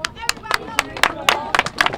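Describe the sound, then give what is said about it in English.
Scattered hand claps from a small group of marchers applauding police officers outside a police station in Milwaukee at the end of a discussion, ringing out at an irregular pace, sharp, while voices murmur and call out underneath. “Some of the marchers even applauded the officers at the end of the discussion outside the police station.”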